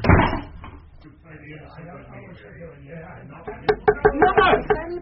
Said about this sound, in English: And shut the door, sonny, and none of you listening at the keyhole.